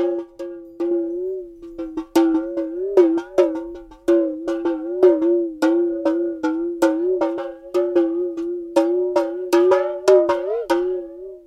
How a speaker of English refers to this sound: This is a Tibetan bowl that, when struck, would sound like this. But with some water in it at the bottom, can actually kind of sound akin to a talking drum.